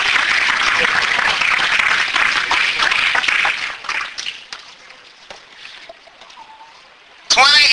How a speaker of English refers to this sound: And praise the Lord. Go ahead and give God another hand clap of praise.